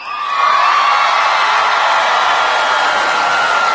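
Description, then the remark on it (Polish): A large crowd of young people shouts and cheers loudly and continuously, a dense roar of voices with whoops rising above it, sustained without pause. “Ponieważ tak krzyczą, więc jeszcze raz się zwracam do młodych.”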